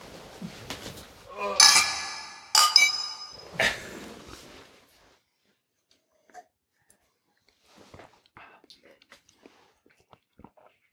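Glasses of craft beer clink together in a toast, two or three bright clinks with a short ringing tail. Then things go quiet apart from faint small movements.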